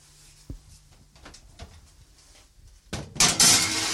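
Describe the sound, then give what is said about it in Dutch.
A sharp clunk opens the scene, then quiet kitchen shuffling and light knocks, before a loud rushing hiss and rattle near the end as an oven door opens and a baking dish of apple slices with butter and cinnamon slides in to bake for about 10 minutes. “En nu zal ik de schaal in de oven steken.”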